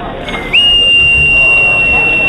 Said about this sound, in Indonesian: Lihat dulu orang-orang, baru bunyikan peluit.